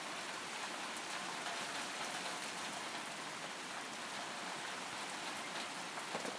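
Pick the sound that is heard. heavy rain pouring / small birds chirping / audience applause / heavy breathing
heavy rain pouring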